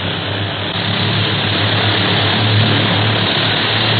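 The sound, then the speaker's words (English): A propeller airplane engine roars steadily and loudly as the plane climbs steeply toward a low overcast cloud ceiling, a thick, constant droning hum with a deep throbbing undertone that never lets up, and no voices. “Now let's climb as high as we can before getting into that overcast and see if we can spot any other flower boats up ahead.”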